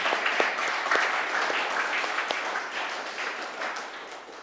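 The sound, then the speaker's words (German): An audience applauds steadily, a dense wash of many hands clapping at an even loudness, with a few sharper individual claps standing out, and no one speaking. “Ja, gebt mir doch einen kurzen Applaus.”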